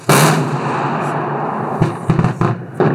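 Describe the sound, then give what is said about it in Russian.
A naval artillery gun mount, controlled remotely from a control post during the final exercises of the Eastern Military District, fires a loud, booming shot, its blast rolling into a long rumbling roar, with a few sharp cracks and thuds near the end. “Данная арт-установка является новейшим и надежным средством поражения воздушных, береговых и морских целей”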